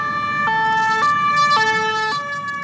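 An emergency vehicle siren blares in the second district of Paris, France, after a knife attack, in a two-tone pattern, switching steadily between high and low pitches about every half second over a low rumble of traffic, fairly loud.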